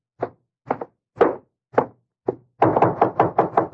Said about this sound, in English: Let him knock again. Now.